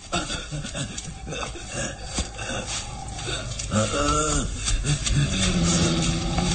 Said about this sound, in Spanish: Un gruñido rabioso le congela la sangre en las venas.